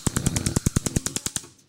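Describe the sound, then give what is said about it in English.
A gas stove is switched on by a girl to boil eggs in a pot of water, its igniter clicking rapidly in a steady rhythm, about a dozen sharp clicks that fade out, with no voices. “Now she's onning the stove.”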